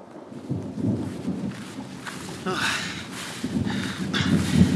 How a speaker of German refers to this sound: Nicht auch noch ein Gewitter? Bitte nicht. Reicht es nicht, dass wir nass sind bis auf die Haut?